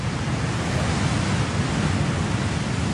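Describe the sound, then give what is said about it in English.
A steady, dense roar of ocean waves against rocks, full, with the surf blending into one continuous wash rather than distinct crashes. No voices are heard. “Amazing sound, waves on rocks.”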